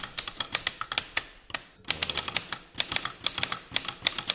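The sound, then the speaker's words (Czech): Rapid, uneven clacking of a mechanical typewriter, with sharp keystrikes in quick bursts and brief pauses, with no voices. “Psací stroje se od roku 2011 nikde na světě nevyrábějí a je to vlastně uzavřená historie.”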